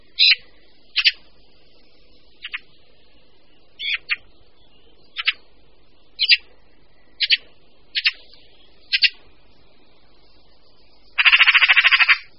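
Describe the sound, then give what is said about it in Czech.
A Eurasian magpie gives a series of short, harsh rasping calls at uneven intervals, then breaks into a longer rapid chatter at the end, clear with no other sounds. “Křehotavý hlas straky nás svádí až k pochybnostem, zda tento pták skutečně patří mezi pěvce”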